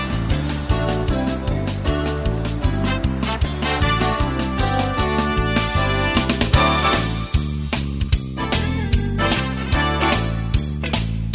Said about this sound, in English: A unique bed to run under your traffic reports.